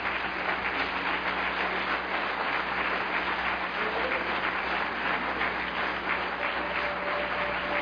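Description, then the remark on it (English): A crowd claps hands to the Lord in worship, a steady, dense wash of applause that holds at an even level throughout, with no individual voices standing out. “Let's just take a moment here to clap our hands to the Lord and worship Him.”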